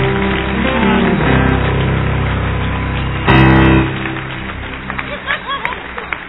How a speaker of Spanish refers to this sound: Hombres, varones, denle un aplauso al Padre por las mujeres, no por otros hombres.